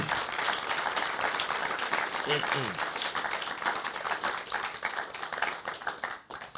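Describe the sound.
A church audience breaks into sustained, dense applause, many hands clapping in a steady wash that stays loud for several seconds before tapering slightly at the end, with a few voices mixed in.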